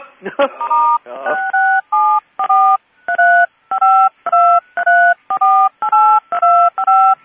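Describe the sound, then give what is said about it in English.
A rapid series of touch-tone keypad dialing beeps, about a dozen short dual-pitched tones in a steady rhythm, loud, after a brief rustle at the start. “Press pound, pound.”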